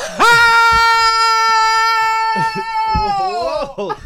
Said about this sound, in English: That scream hurt my ear. I'm not gonna lie. I didn't expect that.